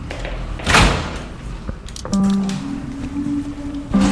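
A small door leading to a courtyard is unlatched with a sharp metallic clack and a few thuds, then swings open on a long, low creaking squeal, fairly loud, with no voices.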